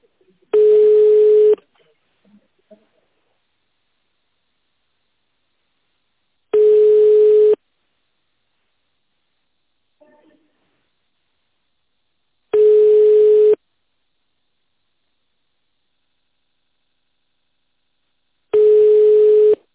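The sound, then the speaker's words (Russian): A steady telephone ringing tone sounds in four long, evenly spaced bursts, with long quiet gaps between them, clear and fairly loud on the line with no talking over it, while a business call is being transferred to a colleague. “Сейчас переведу. Олеся Геннадьевна. А, телефон.”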